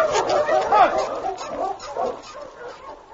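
A team of sled dogs at a cabin, ready to start for Indian Creek, barks and yelps in an excited, overlapping chorus, nearly continuous, with no pauses between the calls.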